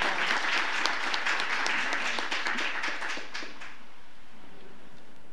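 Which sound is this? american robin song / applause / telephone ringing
applause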